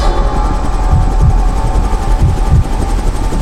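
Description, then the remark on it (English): A helicopter roars steadily with a deep, loud rotor thrum and a throbbing low-end pulse, continuing without pause and with no voices. “Pilot, bring the helicopter down lower.”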